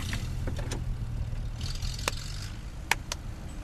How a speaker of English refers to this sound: And when it was over, the furry tones rafted back across the water, got in their van, and drove back to their cozy den in the forest.